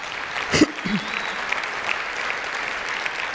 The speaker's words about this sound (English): Okay, stop clapping. I don't have that much time.